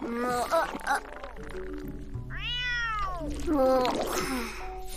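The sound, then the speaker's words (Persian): A cat meows several times, with a long drawn-out yowl in the middle and shorter mewing calls before and after, over a low steady background hum. “نه این گربه ماست.”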